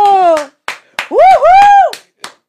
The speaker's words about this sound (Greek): Είναι πολύ άδικο που χειροκροτάς μόνη σου. Στεναχωριέμαι για σένα, μου ήρθε να χειροκροτήσω, αλλά μετά λέω, λέει για μένα να χειροκροτήσω, θα είναι λίγο. Όταν λένε για σένα, για να μην είναι άβολο, χειροκροτάς κι εσύ.